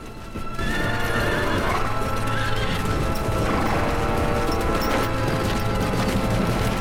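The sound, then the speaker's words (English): Many horses of an army of mounted soldiers heading toward a castle move in a steady, dense rumble of hoofbeats, clip-clop overlapping continuously, with occasional whinnies rising above the loud, sustained trampling and a low constant drone beneath. “Gisborne looks off into the distance to see a cloud of dust rising up behind a hill as an army of mounted soldiers make their way towards the castle.”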